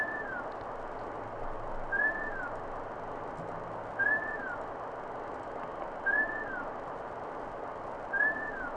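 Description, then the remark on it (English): A short recorded rising-then-falling whistle, not from a bird, repeats five times at steady two-second intervals, each brief and clear above a constant hiss of background noise. “Okay, let's do some whistles.”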